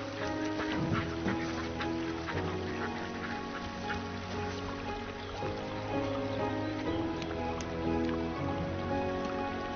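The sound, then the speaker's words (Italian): A flock of ducks quacks steadily, their calls overlapping throughout with a soft pattering like light rain underneath. No one speaks. “Ciao, papere.”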